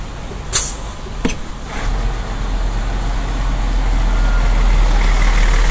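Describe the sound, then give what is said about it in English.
A bus engine idles on a cold December morning as the bus is about to leave Cardiff for London, with a steady, heavy low rumble that swells slightly louder over several seconds, after two brief sharp clicks near the start. No one speaks. “I'm just about to jump on the bus as it's about to leave Cardiff.”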